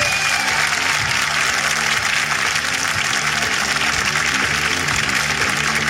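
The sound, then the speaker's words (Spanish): Sustained audience applause at the improvised show Hablando Huevadas, a dense, steady wash of many hands clapping at a constant loud level throughout, with no voices standing out. “Y más fuerte el aplauso, más fuerte que sí.”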